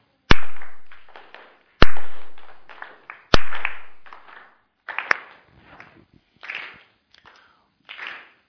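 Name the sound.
rhythmic hand clapping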